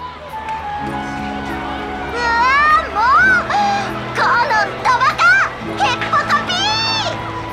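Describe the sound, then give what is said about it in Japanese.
Children's high voices shout and call out over a steady crowd murmur, with excited yells overlapping in lively bursts as a group of kids plays, and two adults' voices as loud as the children's. “子供たちに負けないくらい声が聞こえてきます。”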